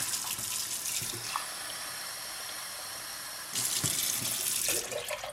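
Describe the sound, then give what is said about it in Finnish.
Water runs steadily in a loud rushing stream that stops briefly and then pours again in a second burst: two glassfuls of water added on top of a third of vinegar to descale a coffee maker. No voices. “Ja sitten 2 lasillista vettä sitten siihen päälle.”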